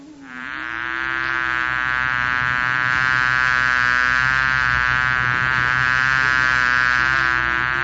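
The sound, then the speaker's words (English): A honey bee buzzes steadily for several seconds, a loud, continuous droning hum rich in overtones that swells at the start and then holds nearly constant, with no voices. “One of the gopis, while meditating on her previous association with Krishna, saw a honey bee before her, and imagined it to be a messenger sent by her beloved.”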